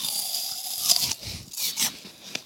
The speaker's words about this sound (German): Aber du darfst jetzt reinbeißen. Jetzt schon mal schauen. Was verändert sich jetzt?